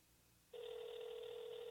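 After a moment of near silence, the ringing tone of an outgoing phone call to a band's singer, starts: a steady, buzzy electronic tone at an even volume that holds until the end, with no talking.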